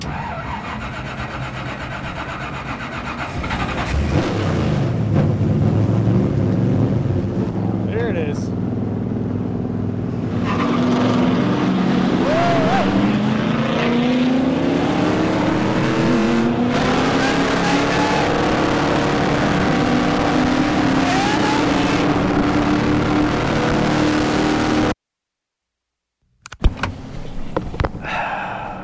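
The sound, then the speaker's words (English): A race car roars along at full speed around Charlotte Motor Speedway, its engine loud with a rising, straining whine over constant rushing wind noise, cutting out abruptly for a moment near the end. “I'm about to fulfill a childhood dream by getting to drive in a race car at full speed around Charlotte Motor Speedway.”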